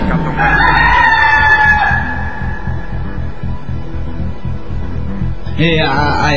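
A rooster lets out one loud, drawn-out crow that trails off after a couple of seconds, leaving a steady low rumble of background noise.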